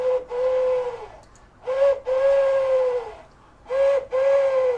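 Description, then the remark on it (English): A bird call flute blown in three calls, each a short piping note followed by a longer steady one that sags slightly in pitch at the end, with a breathy, airy edge and no talking. “So there's a lot of other flutes that I could now blow, for instance this one.”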